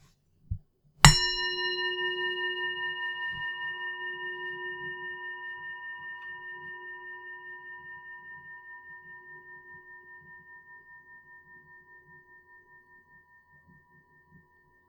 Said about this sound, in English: I would like you to focus and listen carefully to the bell. Notice how its sound continues to reverberate for quite some time. Just focus your attention on the noise of the bell.